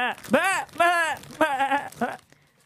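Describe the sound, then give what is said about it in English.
A human voice imitates sheep bleating as a sound effect for sheep rustling, giving four or so wavering, nasal baa calls in quick succession, fairly loud, then trailing off into quiet. “Sheep rustling.”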